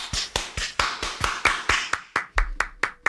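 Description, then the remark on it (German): Hands clap about a dozen times in a brisk, steady rhythm, fuller and busier at first, then thinning to single crisp claps. No one speaks. “Ich finde, das verdient einen Applaus.”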